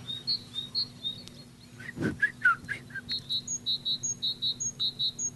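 Great tits singing: a quick series of high, clear repeated notes in a steady rhythm, with a brief burst of lower chirping calls midway, with a faint hum beneath.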